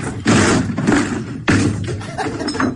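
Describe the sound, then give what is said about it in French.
Two heavy crashing blows as presidential candidate Jean Lassalle forces open a door he took for a town hall's, actually a stable's, about a second apart and each loud, followed by rattling and splintering noise as it gives way. “Bon, j'enfonce la porte.”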